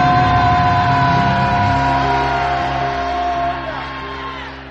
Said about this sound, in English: And how many of you believe that you serve a God of the suddenly? Shout a loud hallelujah.